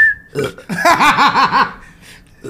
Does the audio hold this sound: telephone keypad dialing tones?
no